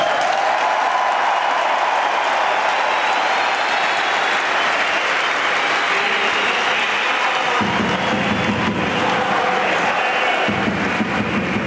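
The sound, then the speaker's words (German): A large stadium crowd gives a standing ovation for HC Davos player André Sambuel, honored at the game against SC Bern: loud, dense clapping that never lets up, with a low swell of cheering voices rising underneath during the second half. “Und natürlich Standing Ovation vom Publikum.”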